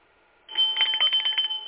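bell ringing

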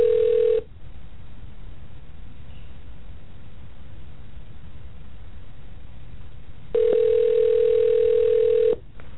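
telephone line tone

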